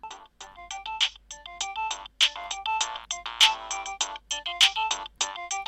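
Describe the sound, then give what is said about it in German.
A mobile phone ringtone plays a bright, rapid electronic melody of short tonal notes, looping steadily and fairly loud for several seconds with no voices. “Ihr Handy klingelt.”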